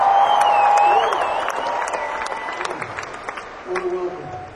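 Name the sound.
audience applause and cheering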